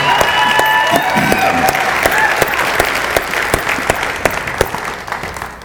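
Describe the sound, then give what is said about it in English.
A crowd claps steadily in sustained applause as a hand clap of praise to God, with a few voices whooping and calling out over the dense, even patter of many hands, fading slightly toward the end. “Let's give God a real hand clap of praise today.”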